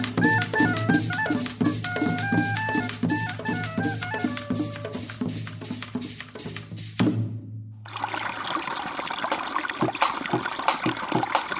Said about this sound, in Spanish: Hoy el río suena. Hoy el río canta, agua. Agua.